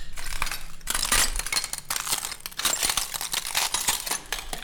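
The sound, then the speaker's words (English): Broken glass clinks and crunches continuously on a hard floor in the looted main hall of a military security branch building in Swaida, a dense stream of sharp, bright rattles and tinkles, with no voices. “There is so much glass on the ground.”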